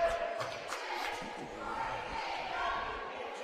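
A steady, dense roar of a basketball crowd cheering and murmuring during a Pena basketball game as a player shoots free throws. The noise is continuous and fairly loud throughout, with no single voice standing out, and swells slightly toward the end.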